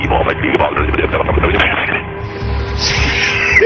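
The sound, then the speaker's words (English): Harsh radio interference on a transmission from the Space Shuttle Discovery fills the whole few seconds, a dense crackling hiss with garbled, distorted bursts, then settling into a steadier buzzing noise with a faint whine near the end. “It sounds as if we had some interference.”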